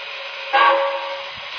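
A passenger steam train, train number three the Cleveland St. Louis Special, arriving from Cleveland at track one, with a steady hiss of steam and a brief louder whistling burst early on, then the hiss carrying on evenly. No one speaks.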